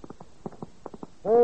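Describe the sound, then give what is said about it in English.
A horse hooves sound effect clip-clops in a quick, uneven rhythm of about a dozen hollow knocks, then a louder sustained, tonal sound with strong harmonics cuts in at the end. “Can I help it if he's a trick horse?”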